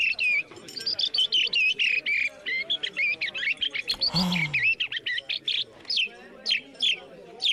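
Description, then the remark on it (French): A 49-year-old man from Marseille, the European bird-call champion, whistles a convincing imitation of a blackbird's song, a loud run of fluty warbling phrases and sharp chirps, with a brief breathy burst midway and rapid rising notes near the end. “il a 49 ans, il est marseillais et c'est grâce à son imitation du merle noir qu'il est devenu champion d'Europe du cri d'oiseau samedi dernier à Marseille.”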